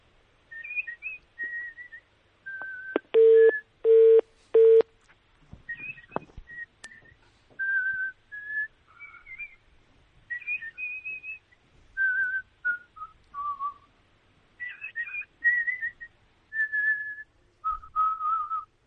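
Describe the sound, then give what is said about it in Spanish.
A person whistles a melody alone over the telephone, a series of clear sustained tones gliding up and down in short phrases, interrupted near the start by three loud, brief beeps. “Ahí va el silbido.”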